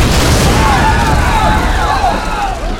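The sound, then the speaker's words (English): A homemade grenade, packed with rusty nails and bits of glass and rock and hurled by Sparks during an attack on a town, explodes with a heavy, rumbling low end that stays loud for nearly three seconds, while faint wavering whistles drift through the noisy blast. “Sparks started hurling his homemade grenades, and the rusty nails and bits of glass and rock tore into flesh and dropped men dead or horribly wounded.”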